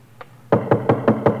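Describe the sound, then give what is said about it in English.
One faint tap, then a rapid, evenly paced run of six firm knocks on wood, like someone rapping at a door to be let in. Fairly loud, with no voices. “Knocking to be let in.”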